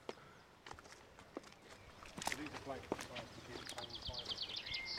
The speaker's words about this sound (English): Out we go through the back door. There we are. And here we are, just one step. And let's just listen to those birds.